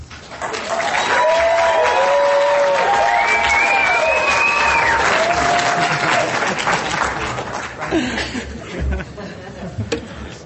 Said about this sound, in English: Thank you for the Roanoke, Virginia cheer. I appreciate it.